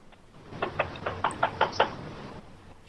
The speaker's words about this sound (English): So she was a good sport and knocked on the door.